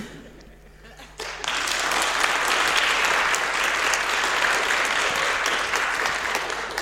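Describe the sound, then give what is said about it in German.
After a brief quiet moment, a crowd bursts into sustained applause, dense clapping that stays steady and fairly loud for several seconds before easing slightly toward the end. “Ihr wisst, wann ihr klatschen müsst.”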